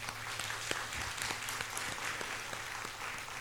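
A Christian audience bursts into sustained applause to give glory to God, many hands clapping in a dense, steady wash of sharp claps with no voices standing out, holding at an even level throughout.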